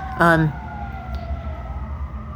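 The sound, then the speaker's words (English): Emergency vehicle sirens wail with a slowly gliding tone over the low rumble of busy street traffic, heard from right next to a very busy street, with a brief loud burst of voice near the start. “sorry about all the sirens, I'm right next to a very busy street.”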